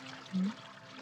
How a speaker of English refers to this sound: Now then, if you'll join me at my cauldron, we add a little water.